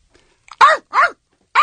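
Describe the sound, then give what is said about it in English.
A voice imitates a dog's bark with three loud, bark-like yelps: two in quick succession, then a third after a short pause. “Barking? That's her thing? Loud?”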